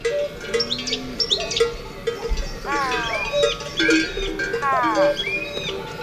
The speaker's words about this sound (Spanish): El pastor y el ganadero llamando a las vacas. Ah, ya decía yo, qué bien vocaliza esa vaca. El paisano llamando a la vaca.